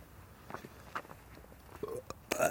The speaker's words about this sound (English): That was like sort of a burp.